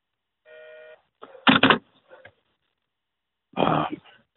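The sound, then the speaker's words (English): A single brief, shrill electronic tone from a malfunctioning phone rings out, steady and buzzy with a half-second duration, followed by a couple of loud coughs or throat-clearing bursts. “They make a shrill noise here.”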